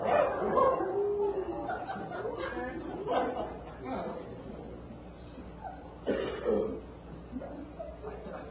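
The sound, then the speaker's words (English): A human voice mimics a barking dog, letting out several short, rough yips and woofs in uneven bursts, mixed with grunting vocal noises on a dull, muffled recording. “Fully 10% of the recording is taken up with grunts, moans, yicks, and the imitation of animal sounds, of which the most often repeated is that of a barking dog.”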